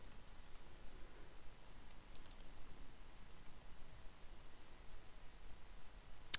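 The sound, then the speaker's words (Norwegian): Soft, scattered keystrokes tap away on a computer keyboard as a search is typed into a database, faint and irregular, with one sharper click right at the end and no voices. “Så nå skrev jeg bare inn det, og da får jeg opp den her rett her.”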